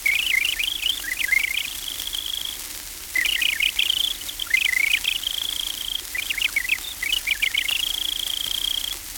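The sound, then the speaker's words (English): A house wren sings three bubbling, undulating bursts of high trills, each lasting a couple of seconds and tailing into a steady thin note, with short pauses between and no voices. “The pert Jenny Wren, or house wren, pours out its voice in undulating trills.”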